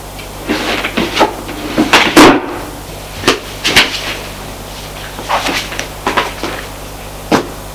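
A nightstand drawer is pulled open with a series of wooden knocks and scrapes, followed by a dull thud of a notebook falling to the floor. Fairly loud, with no talking.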